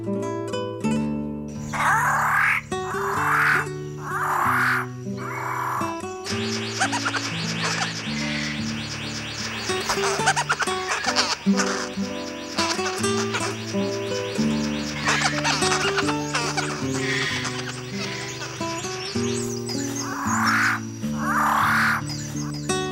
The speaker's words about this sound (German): Das war der Paradiesvogel.